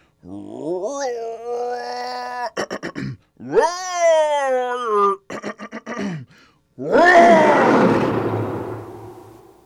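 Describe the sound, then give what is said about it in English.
A voice makes two strained, wavering growls broken by clicking sputters, then lets out a loud, raspy roar imitating a lion that slowly fades. “See? You're a lion.”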